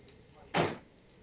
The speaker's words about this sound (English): I'm sorry, one sec, I gotta close my door.